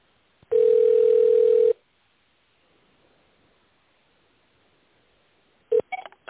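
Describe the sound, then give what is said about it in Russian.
A loud, steady electronic telephone tone holds for about a second, then faint line hiss, followed near the end by a brief beep and a few clicks, like keys pressed to dial an extension, on a call to a self-regulatory organization's phone line. “Наберите добавочный номер или дождитесь ответа секретаря.”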